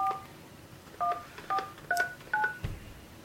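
Five short dual-tone beeps from a telephone keypad being dialed, spaced roughly half a second apart, clear with no talking, followed by a soft thump at the end.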